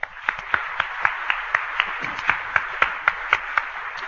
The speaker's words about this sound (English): Would you welcome, please, with a big round of applause, Mr. Mark Roman.